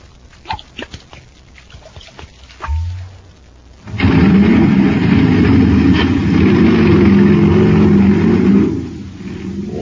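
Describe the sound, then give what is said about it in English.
Scattered clicks and a brief low hum give way to a sudden, loud, steady engine roar from a jet cycle supercharged with super fuel, revving for about five seconds before dropping to a quieter rumble. “That jet cycle is supercharged now.”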